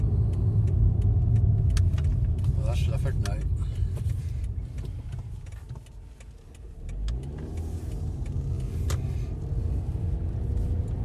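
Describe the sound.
A car interior with a steady, close engine and road rumble throughout, dipping briefly mid-way before picking back up, while a man speaks over the drone.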